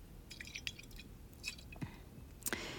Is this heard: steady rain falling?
no